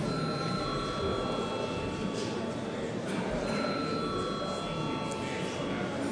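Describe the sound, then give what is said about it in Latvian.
A parliament chamber bell, rung at the chair's request just before a vote on a bill in its first reading. It rings continuously for several seconds, a steady high-pitched electric tone held over a constant wash of background murmur and noise. “Paldies, lūdzu zvanu.”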